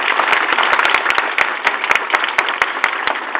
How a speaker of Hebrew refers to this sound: ילדי כיתה א', תרימו רגע את היד, הילדים שפעם ראשונה בבית הספר, מגיע להם מחיאות כפיים, נכון?